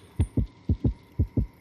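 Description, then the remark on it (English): A synthetic video-game heartbeat, heard when zombies are close, thumps in three quick lub-dub pairs, deep and booming with a steady rhythm, set against a faint low hum and no voices. “Did you hear your own heartbeat?”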